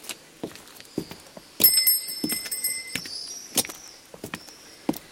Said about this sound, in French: Et maintenant, remue la sonnette et marche. Mon petit.